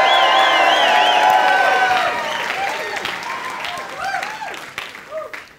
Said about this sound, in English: And so we want to welcome our Frankston campus who are watching right now. Let's give them a big cheer, a big welcome.